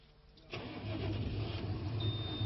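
After a brief quiet moment, a tractor engine roars in and keeps running steadily with a deep, throbbing low rumble, loud, with no voices. The fuel-efficient new tractor ploughs 15 hectares a day on 200-220 litres of diesel, on a farm in Vas county, Hungary.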